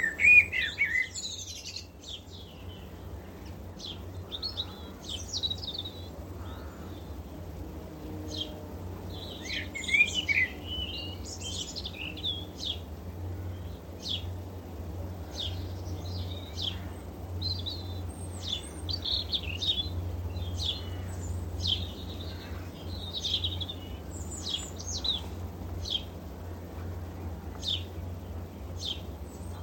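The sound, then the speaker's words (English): An English dawn chorus of many birds singing together, bright chirps and trills overlapping continuously, with a steady low rumble underneath and no voices. “An extract of the Dawn Chorus from the BBC's Sound Archive.”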